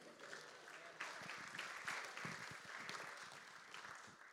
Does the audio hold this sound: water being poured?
no